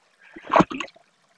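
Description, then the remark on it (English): A water vole moving through water at High Peak Junction: a brief flurry of light splashes and plops, peaking in a quick double splash before trailing off into quiet. “there could be a water vole quite close to you”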